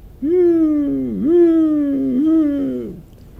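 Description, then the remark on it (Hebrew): A jackal howling at night, a wavering, high-pitched howl drawn out for about three seconds, dipping and rising in pitch with a second overlapping voice briefly joining near the end, loud with no talking. “ואני לא יודע אם אתם יודעים, יש חיה, קוראים לה תן. התן הזה הוא מיילל בלילה.”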